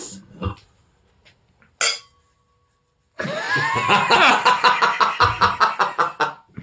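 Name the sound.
clinking glasses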